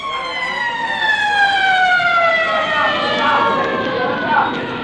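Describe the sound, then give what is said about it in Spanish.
A police car siren wails loud throughout as the car arrives to rescue a young man from an angry crowd, its sustained tone gliding slowly downward in pitch, with a faint murmur of voices underneath. “Un carro policial salvó al muchacho y al tío Juan de las iras de la gente”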